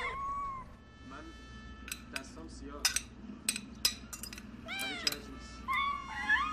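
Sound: cats meowing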